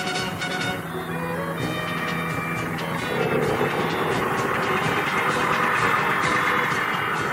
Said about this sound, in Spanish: La cabalgata da comienzo al ritmo de la infaltable banda, acompañada además del rugido del motocarro de Plácido.